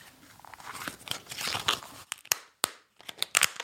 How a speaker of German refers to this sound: Ja, aber wenn wir da auf die zugefrorenen Seen gehen und dann Schritte auf diese Seen machen, ne?